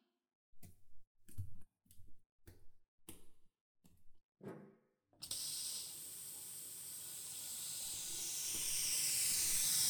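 shower water spraying

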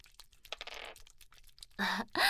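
dice being rolled

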